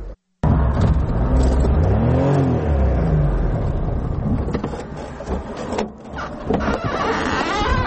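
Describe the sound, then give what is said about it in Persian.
A Daewoo Tico small car's engine hums and revs up and down as it drives on the roads of Tursunzoda, Tajikistan, with a steady mechanical whine and road rumble, no talking. “در راههای تورسون‌زاده تیکه سواری کرد.”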